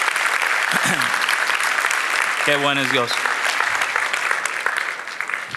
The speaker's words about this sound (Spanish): Si Dios se habló, de un aplauso al Señor, que Él se lo merece. Amén.